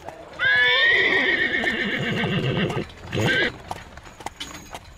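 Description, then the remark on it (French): A loud horse whinny from the horse Aladdin, with bright, wavering harmonics, quickly followed by a second shorter neigh, as hooves clip-clop underneath at a steady walking rhythm. “Alors que nous parcourions le monde avec notre compagnon, le cheval Aladdin,”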